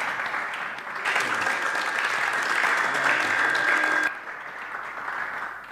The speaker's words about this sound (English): Let's clap our hands for him.